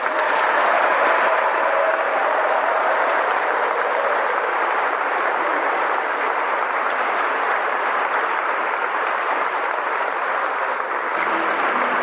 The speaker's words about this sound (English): A little round of applause here.